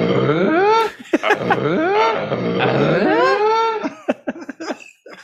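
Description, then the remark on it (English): A comic fart sound-effect drop played on air: a long, loud, wobbling blast whose pitch swoops up and down for several seconds, ending in a few short sputtering pops. No one speaks over it. “Can you imagine that that's what Tim Allen's farts would sound like?”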